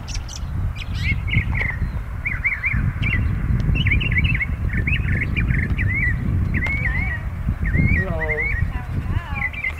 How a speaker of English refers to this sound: Yeah, all during our trip to the south, that's the thing that we hear, that beautiful bird song. Yes, every place we went to, Augusta First, Macon, every time we arrive to these places and get out of the car, we hear songbirds.